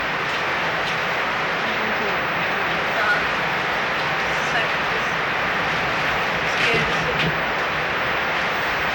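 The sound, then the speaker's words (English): Heavy rain drums on a tin cover, a dense, continuous clatter and hiss that holds at an even, fairly loud level for the whole stretch. “Well, it rains on this tin, it makes a racket.”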